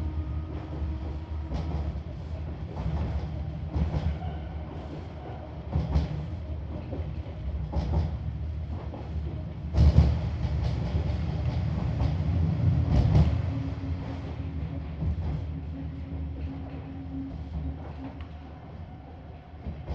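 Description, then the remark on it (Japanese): A Nishitetsu train rolls steadily along rails, a continuous low rumble punctuated by irregular clacks from the wheels, swelling louder for a few seconds midway before settling back. No one speaks. “次は西鉄田市、田市です。事故防止のため、急停車することがありますので、ご注意ください。”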